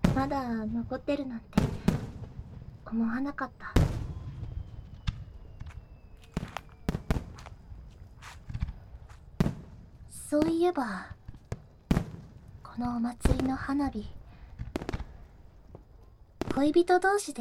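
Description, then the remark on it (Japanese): Festival fireworks burst repeatedly at irregular intervals, sharp booming cracks ringing out over a low background, while a voice talks quietly between and beneath the explosions. “そういえばこのお祭りの花火、恋人同士で一緒に見ながら口に出さずに同じ願い事を思うことができたら”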